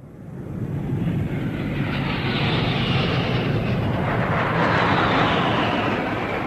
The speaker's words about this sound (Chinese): 这是我们的空军健儿驾驶的94架战鹰，轰炸机、强击机、歼击机组成楔形的空中梯队，飞临天安门上空。